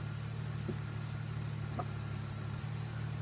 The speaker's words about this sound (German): Und das Auto ist an.